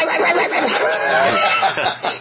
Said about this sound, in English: Sounds like somebody's plugging a chicken.